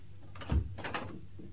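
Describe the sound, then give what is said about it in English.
A door is opened and shut to check whether anyone is listening outside: a dull wooden thump, then a short scraping rattle as it swings, all within a second or so, with no voices. “Is there anyone listening outside the door? There might be. Have a look.”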